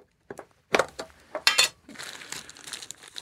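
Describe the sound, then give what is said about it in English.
A plastic bag crinkles as it is ripped open while a package is being opened: a few sharp, irregular crackling bursts followed by a steadier, softer rustle, with no one talking. “I got to rip this open. It's a plastic bag.”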